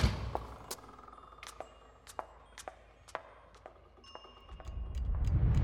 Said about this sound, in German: Die Glocken waren noch nicht verklungen, als Shiro bereits wie aus dem Nichts in Nanokas Zimmer erschien.